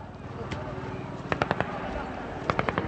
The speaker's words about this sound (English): They were intercepted and arrested by Pakistani police, who then began firing tear gas canisters along with bursts of automatic weapons fire to disperse the rest of the crowd.